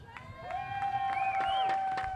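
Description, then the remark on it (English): A rally crowd in Australia, gathered in support of Gaza, cheers and shouts in a dense, steady roar, with a long sustained cry rising above the noise and scattered claps breaking through. “The children of Gaza are hearing your shouts, your voices.”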